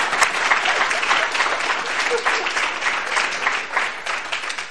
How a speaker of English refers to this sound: We all give him a wonderful round of applause.